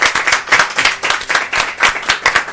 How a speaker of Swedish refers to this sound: Vi tackar våra vänner så jättemycket för att de har stått ut och lyssnat. Så en applåd till er. Applåd till er.